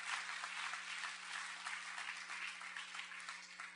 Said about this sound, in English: Give the Lord another clap offering tonight. Amen.